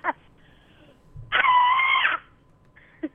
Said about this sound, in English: Can you scream? It's weird, but can you scream? Sure. How's that? That was great. Do it again.